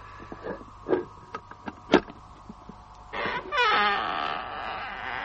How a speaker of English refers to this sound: Well, let's have a go at the door.